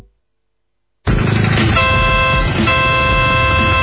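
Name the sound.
car horn honking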